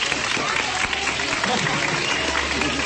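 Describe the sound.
An audience applauds, a dense, steady patter of many hands clapping that holds at an even, fairly loud level for about three seconds, with faint crowd voices mixed underneath.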